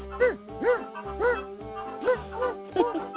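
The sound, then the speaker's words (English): A dog barks about six times in a steady rhythm, each bark a short, mid-pitched, slightly rising-and-falling woof, with no talking over it. “He's got a C&I dog right there.”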